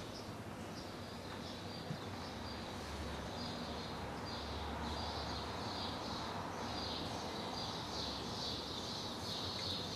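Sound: birds chirping outdoors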